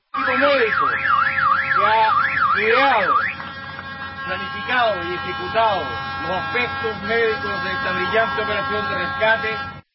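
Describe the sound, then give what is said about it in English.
A siren goes off with a fast, high warbling wail that sweeps up and down for about three seconds, followed by loud shouting voices over a steady rumbling background, as the last of 33 trapped miners is pulled to safety in Chile. “This sounds like those vuvuzelas, doesn't it, in the background? The siren going off.”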